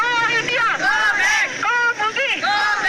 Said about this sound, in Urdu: اس rally میں civil society کی خواتین کے علاوہ مختلف تعلیمی اداروں سے تعلق رکھنے والی سینکڑوں طالبات نے شہر کے کئی مقامات سے سپریم کورٹ چوک تک احتجاجی ریلی نکالی. اس موقع پر ریلی میں شریک خواتین نے آزادی کے حق اور بھارت مخالف نعرے بھی لگائے.